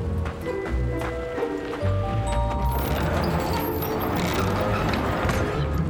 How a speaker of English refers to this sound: Did you hear that? Sounds like a horse. Certainly horse-like.